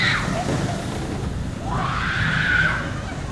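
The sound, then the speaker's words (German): Over a steady mechanical rumble, high-pitched screams from several riders on the Wiener Looping roller coaster swell and rise as the car passes by, one short burst at the start and a longer, louder wave of shrieking in the second half. “Immer wieder fahren Menschen mit dem Waggon an uns vorbei und wir hören Schreie.”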